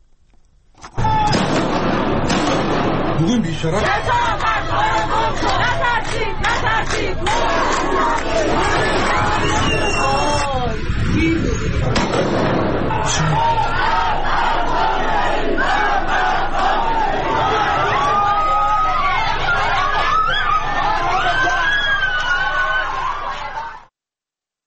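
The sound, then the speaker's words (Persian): A large crowd of street protesters shouts and chants loudly and continuously at Tuesday demonstrations where many women and girls removed or burned their headscarves. Many voices overlap in a dense roar, with sharper individual cries rising above the mass for about twenty-three seconds. “بسیاری از زنان و دختران در تظاهرات روز سه‌شنبه روسری‌های خود را از سر برداشته و یا به آتش کشیدند.”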